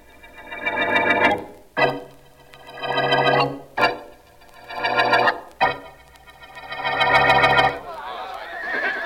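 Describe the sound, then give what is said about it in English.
Horses whinny loudly, four long shrill neighs following one another with brief sharp knocks between them, ending in a burst of rough rustling noise. “Keep those horses quiet, will you, fellas?”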